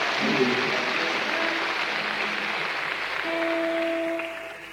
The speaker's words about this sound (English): Let's have a round of applause for the people that are running this thing tonight.